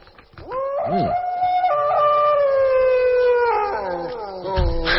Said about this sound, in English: A pack of wolves is howling at the full moon.